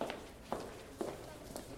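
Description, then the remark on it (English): A woman walks down a school corridor: four even, unhurried footsteps about half a second apart, moderately loud over a low, steady background hum. “walks down a corridor at school.”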